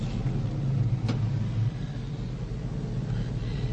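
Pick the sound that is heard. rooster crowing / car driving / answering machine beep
car driving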